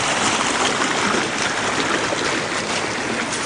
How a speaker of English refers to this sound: The creek has run really hard this year.